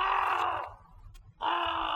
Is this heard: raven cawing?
yes